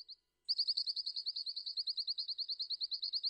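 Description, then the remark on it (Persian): A Pleske's ground jay, a bird endemic to Iran, calls in a rapid, steady series of high, clipped notes, about eight per second, after one short opening note and a brief pause. The bird calls alone. “به خاطر پوشش گیاهی قابل توجه کنار رود شور محیط مناسبی برای زندگی پرنده اندمیک ایران یعنی زاغه‌بور ایجاد کرده.”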